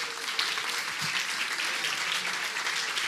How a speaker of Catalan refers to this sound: Un aplaudiment, no?, per aquesta gent.